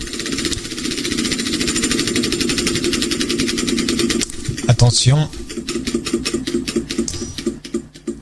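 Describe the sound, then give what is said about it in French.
A game show prize wheel spins with a rapid, steady rattle of clicks that gradually slows into widely spaced ticks as it comes to a stop; a voice speaks briefly midway. “Alors attention, la roue va s'arrêter.”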